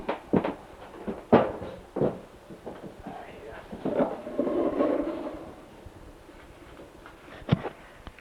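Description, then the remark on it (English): A person moves their chair over across a floor: several sharp knocks and bumps, a longer dragging scrape in the middle, then one more thud near the end. “I'm going to move my chair over here.”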